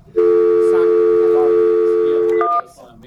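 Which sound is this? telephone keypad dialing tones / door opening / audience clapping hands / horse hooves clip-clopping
telephone keypad dialing tones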